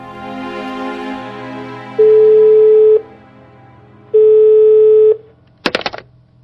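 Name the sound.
telephone ringing tone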